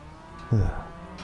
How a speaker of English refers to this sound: Well, I'll get a good recording of a herd of cattle at least, so long as these goofs don't stampede on me.